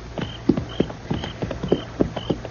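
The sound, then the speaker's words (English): Horse hooves clip-clop in a steady, brisk rhythm, about four or five beats per second, fairly loud, with a faint high metallic ring over the hoofbeats. “I'll hang on to the offside of my horse for cover.”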